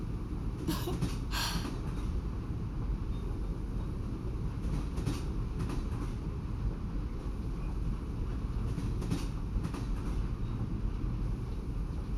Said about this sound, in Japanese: ほら、列車の音に耳を澄ませて、ゆっくりゆっくりお休みになってください。